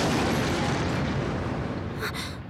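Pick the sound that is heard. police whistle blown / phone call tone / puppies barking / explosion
explosion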